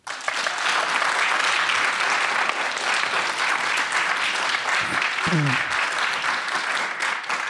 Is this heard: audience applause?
yes